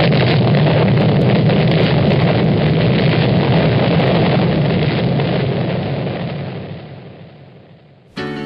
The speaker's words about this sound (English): You'll notice a lot of explosions in this.